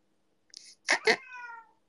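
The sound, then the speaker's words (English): A cat lets out a single drawn-out meow with a short chirpy lead-in and a falling tonal tail, heard on its own against a quiet background. “Meow! Meow! Meow?”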